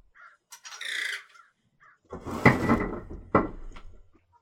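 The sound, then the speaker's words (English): A crow caws loudly, a few harsh rasping calls in quick succession followed by two more forceful, drawn-out caws, with no talking underneath. “The fucking bird, man.”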